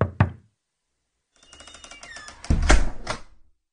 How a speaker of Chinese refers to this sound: 突然听到了敲门声。